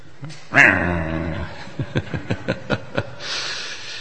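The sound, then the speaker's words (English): A voice imitates a dog: a loud, drawn-out whimpering whine, then a quick run of about seven short, sharp barks, ending in a soft breathy hiss. “Cats and dogs.”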